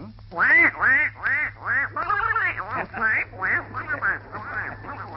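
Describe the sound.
A human voice imitates a duck, letting out a rapid, nonstop string of raspy, nasal quacks, with a faint steady hum underneath.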